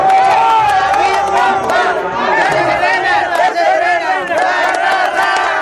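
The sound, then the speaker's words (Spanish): A group of voices shouts a loud, rhythmic cheering chant (a "porra") in unison for the winning champions, sustained and energetic throughout with overlapping yells and rising, wavering tones. “Échense una porra para ustedes mismos.”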